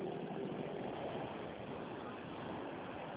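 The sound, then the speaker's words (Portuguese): A car engine idles in traffic as the driver, on a phone call, pulls over: a steady, even rumble with dense constant road-and-cabin noise filling the background and no voices or distinct events standing out. “Ah, espera aí que eu tô no trânsito. Eu vou dar uma encostada aqui pra você falar, espera aí.”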